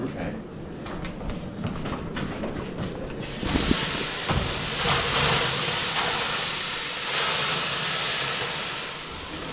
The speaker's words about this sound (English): Okay. See, a lot of steam.